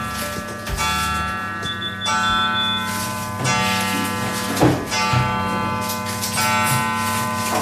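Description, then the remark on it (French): A pendulum clock at a home in Vieux-Ferrette ticks steadily while sustained, ringing chime tones hum and overlap beneath it, with a few sharper clicks standing out; no voices. “Vous l'avez reconnu cette horloge, hein ?”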